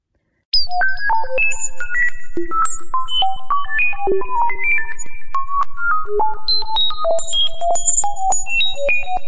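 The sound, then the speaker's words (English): A dense, wild flurry of electronic beeps from spaceship instruments as the ship nears a black hole, short tones jumping rapidly between high and low pitches in a steady, chattering stream for several seconds, with no voices. “As they came closer, their ship's instruments began to whirl and beep wildly.”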